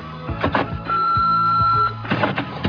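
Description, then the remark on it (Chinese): Mechanical clicks and clunks from a small answering machine, then a steady high-pitched whirring for about a second as its tape rewinds to replay an earlier phone message, followed by more clicking as it stops and starts playback. “头先嘅电话究竟边个打嚟咧？是不是找我呢？嗯，回弯回来听一下。”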